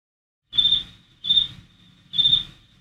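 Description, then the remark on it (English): A crickets sound effect: crickets chirp in three short, high-pitched trilling bursts at an even pace, clear, with nothing else in an otherwise quiet scene. “Let me just say the crickets is in part”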